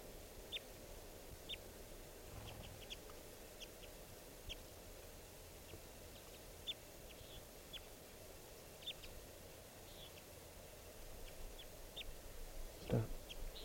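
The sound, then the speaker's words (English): A male and female type 2 crossbill pair call back and forth, trading short, high-pitched chirps at a steady pace throughout, fairly faint over a constant low rumble of background noise. “Both birds are calling now. Good call matching there by the pair.”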